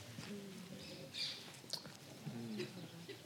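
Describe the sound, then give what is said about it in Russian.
Flying birds chirp, tweet and screech anxiously in short, sharp bursts scattered across a few seconds, moderately loud over a steady low background hum with some faint tonal sounds beneath. “А тем временем птицы летели еще более тревожно, они щебетали и верещали.”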